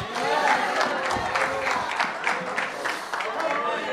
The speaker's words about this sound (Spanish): Si puede aplaudir, aplauda.